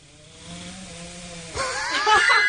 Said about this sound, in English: You can't ask a bulldog to not snore.